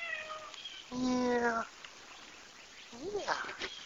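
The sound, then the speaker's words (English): A wet cat named Tigger meows twice on a porch in the morning: first a loud, drawn-out, steady meow, then a shorter, quieter one that rises and falls, with faint high-pitched chirping in the background. “Yeah, you're a good cat.”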